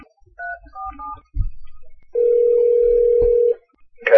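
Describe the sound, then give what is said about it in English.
A few quick keypad beeps and a handset click, then a steady telephone dial tone, heard after a call was accidentally hung up, hums for over a second before another click cuts in. No one speaks. “I hung up on him on accident, so let me see if I can not hang up on you.”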